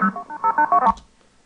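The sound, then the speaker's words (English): A rapid string of about six touch-tone telephone number dialing beeps, each a short steady dual-pitched tone in an even rhythm, ending in a soft click and then silence. “Well, the easiest way to decode it for me nowadays is to just play it over and over and listen to the tones like this.”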